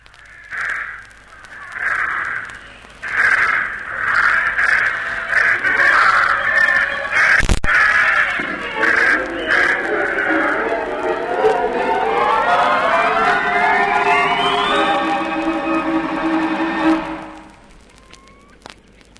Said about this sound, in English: Send those birds up and I'll be off. Then here goes!